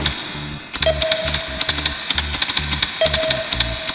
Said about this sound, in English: And then, as you heard before, I have a sound effect of me typing in the numbers.